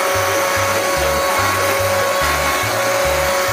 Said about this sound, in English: Time to bevel. You know, clean it up a little. It's like using it as a sander.